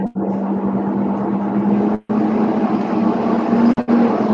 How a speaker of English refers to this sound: Somebody's got a truck in the background, you need to mute.